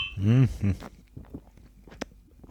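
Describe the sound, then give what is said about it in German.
Glasses clink once in a toast, a single bright, short chime after a brief spoken exclamation, with quiet background sounds around it. “Nochmal, Prost.”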